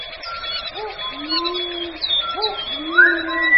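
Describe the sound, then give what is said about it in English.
A dense chorus of bird calls in a kauri forest on the North Island: low, drawn-out cooing notes repeat every couple of seconds beneath a layer of higher whistles and chirps, steady and moderately loud throughout. “A few centuries ago, this forest echoed with the calls of strange and wonderful birds.”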